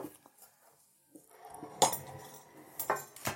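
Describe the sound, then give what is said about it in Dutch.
A flat ceramic oven dish lined with baking paper is slid aside across a countertop, a low rasping slide punctuated by two sharp clinks, the louder one midway and another near the end. Nobody speaks. “Ik zal dus nu ook die schaal, die ovenschaal nemen, die platte schaal waar dat ik dus dat bakpapier opgelegd heb.”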